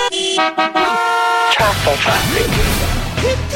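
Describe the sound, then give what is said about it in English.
Loud car horns blare in a few sustained, overlapping honks, then give way to a dense wash of traffic noise with voices speaking over it. “Traffic!”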